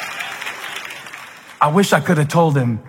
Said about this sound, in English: I wish I could have told him that that is about as much encouragement as you're ever going to get for doing so little. From this point forward in your life, you got to do crazy stuff to get that level of applause.